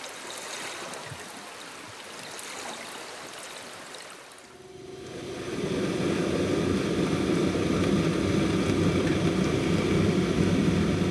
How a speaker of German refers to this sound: Das, was ihr im Hintergrund hört, sind Schiffsgeräusche, wie sie unter Wasser von den Tieren im Meer zu hören sind.